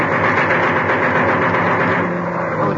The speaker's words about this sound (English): German plane attacking? No, that's just a Spitfire. Gunnery practice. See, you can see the plane ahead of him towing the target fleet.